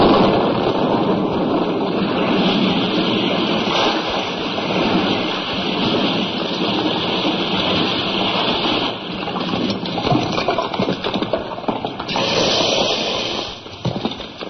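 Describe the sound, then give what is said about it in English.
A loud, rumbling blast from a blasting operation at the bridge over the River Tay roars on without pause while debris rattles and patters down continuously, dense, with no voices for the whole stretch. “Now, strapped to the railway lines at Paddington, I announced part two, the bridge over the River Tay, the blasting operation.”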